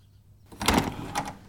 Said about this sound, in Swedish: Dörren till kråkslottet slogs upp.